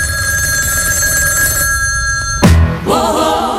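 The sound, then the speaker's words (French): A telephone rings as a wake-up call with a steady, bright ringing tone for a couple of seconds, then an abrupt clunk cuts it off, followed by a brief, different tonal sound. “C'est le réveil par téléphone.”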